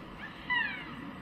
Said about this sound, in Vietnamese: Tôi cũng nghe thấy từ trên gác vọng xuống những tiếng rít kéo dài buồn bã, tựa như tiếng mèo rên rỉ.